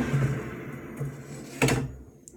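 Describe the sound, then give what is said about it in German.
An air fryer basket slides out for shaking with a short, scraping clunk over the steady low hum of the air fryer's fan. The fan stops once the basket is pulled out, leaving faint background noise. “Das heißt, wir ziehen den Korb einmal raus.”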